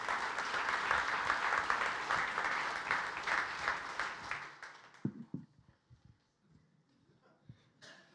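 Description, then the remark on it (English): An audience gives a warm round of applause for a man invited forward to read the scripture. The clapping is dense and steady and fades out after about four seconds, followed by a few scattered thumps and shuffling sounds. “So let's give him a warm round of applause.”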